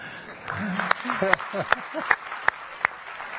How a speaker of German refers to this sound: Das ist sowas. Also gut, diesen Applaus wird man bis Oslo gehört haben.